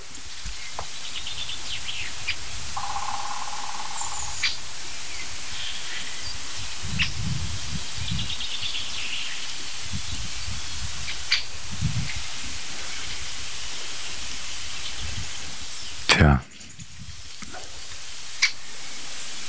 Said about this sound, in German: Das ist übel, ne? Ihr hört Windrauschen.